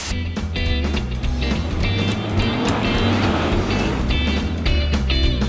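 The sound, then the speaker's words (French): Steady, dense rumble of classic car engines rolling past in a continuous stream during the Woodward Dream Cruise on Woodward Avenue, Metro Detroit, on the third Saturday of August, with a deep low-pitched drone and occasional higher harmonic whines from individual motors. “It's the third Saturday here in August, and another Dream Cruise is rumbling down Woodward Avenue here in Metro Detroit.”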